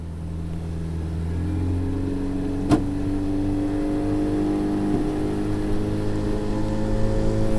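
A small no-frills boat's outboard motor drones steadily as it travels up the Tapajós River from the Amazon town of Itaituba on a cold, rainy, windy day, its pitch shifting slightly as it runs, with one brief sharp knock partway through and no voices.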